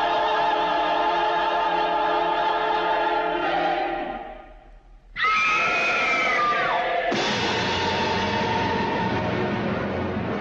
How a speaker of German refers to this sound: Das Mörderische an dieser Szene ist, dass beim Klang des Beckens ein tödlicher Schuss auf einen Premierminister abgegeben werden soll. Nur der Schrei einer Frau vor dem Beckenschlag kann den Politiker retten.